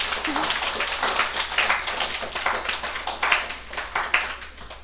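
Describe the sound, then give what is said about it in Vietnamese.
A crowd applauds steadily for several seconds at a Buddhist talk, many hands clapping in a dense, continuous wash of sound without pause. “Xin vỗ cho một tràng pháo tay thiệt to.”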